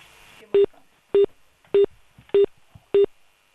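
Six loud, evenly spaced electronic telephone beeps of an outgoing phone call repeat about every half second, each a short steady tone, over a faint background hum with no talking.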